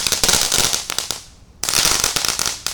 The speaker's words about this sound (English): let me light these last two crackle bombs. There's one. There's two. And throw them out into the yard.